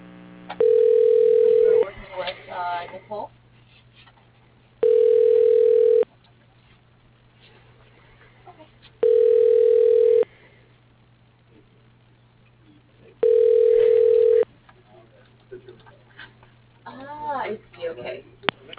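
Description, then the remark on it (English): A phone line rings four times while a call is being transferred to an office extension, each ring a steady, mid-pitched tone lasting about a second, evenly spaced with pauses between. Faint talking can be heard in the gaps. “Please, your call is being transferred.”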